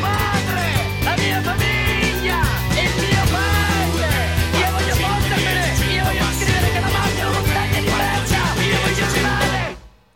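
A loud, dense folk-rock song with a full band and shouted vocals plays steadily throughout, then cuts away quickly in the final second.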